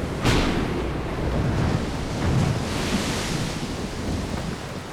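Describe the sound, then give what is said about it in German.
Stormy waves surge and churn in a continuous, loud roar, with swelling rumbles of thunder and gusts of wind sweeping over the crashing water. No one speaks. “Zieht herauf, ihr dunklen Wolken. Kommt, ihr Wellen. Kommt, ihr Wogen.”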